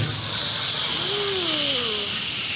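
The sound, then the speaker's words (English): A Keurig single-serve coffee maker brewing, with a steady, loud hiss of steam throughout and a faint rising, wavering whistle-like tone in the middle. No one speaks. “I weaponized a Keurig single-serving coffee maker.”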